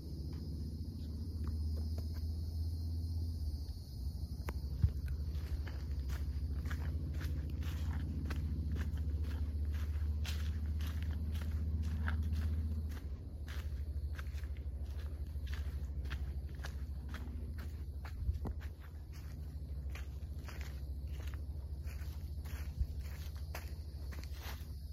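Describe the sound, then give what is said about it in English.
Steady footsteps crunch along the Ancient Dunes Trail, a narrow dirt footpath, at an even walking pace, over a constant high insect chirring and a low background rumble. “The footpath we are walking today is the Ancient Dunes Trail.”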